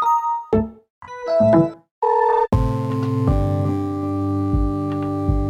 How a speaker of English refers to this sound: In fact, removing the start sound meant that the UI sounds became even more important. UI stands for user interface. UI sounds are the notifications you hear as you use your computer.